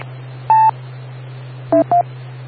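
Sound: telephone touch-tone dialing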